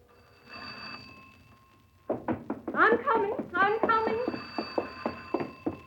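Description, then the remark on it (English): An old wall-mounted telephone on a second floor rings loudly, its bell hammer clattering in rapid bursts of strikes after a brief faint hum, with no one talking over it. “It was put on a wall on the second floor where everybody could hear its loud bell from the first.”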